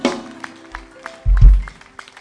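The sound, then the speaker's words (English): Sparse clapping as a clap offering for the Lord, sharp hand claps arriving at a loose, roughly even pace over a steady low musical hum, with a couple of heavier low thumps midway. “A clap offering for the Lord.”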